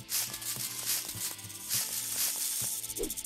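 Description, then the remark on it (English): A video game snake hisses in short, airy bursts as the player jumps over it, over a steady, rhythmic electronic music track, with no voices present. “Jump the snake.”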